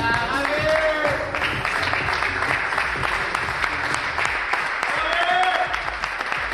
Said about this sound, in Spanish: quiero que escuchen la ovación que le ha dado hoy toda la plantilla, el cuerpo técnico con Xavi delante.